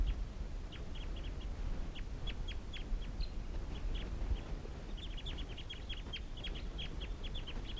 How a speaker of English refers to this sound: So recording, there are actually five birds here, I think. Three males and two females. And these are the wild birds calling.